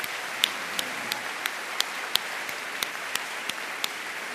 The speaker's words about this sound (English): Let's give a round of applause to all three here for spending the night with us.